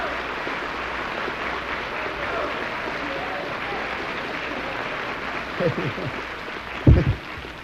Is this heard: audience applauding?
yes